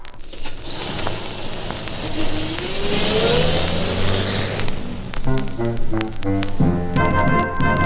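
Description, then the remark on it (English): A big 10-ton truck's engine rumbles loudly and revs, its pitch climbing in a long whine before settling into a throbbing, uneven idle. No one speaks. “I am a truck, a 10-ton truck, and I love to ride along.”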